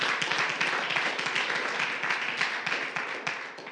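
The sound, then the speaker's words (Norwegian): A crowd breaks into steady applause for Jesus, dense overlapping hand claps forming a continuous, fairly loud wash of sound that holds for several seconds with no voices over it. “Jesus fortjener en skikkelig applaus, altså.”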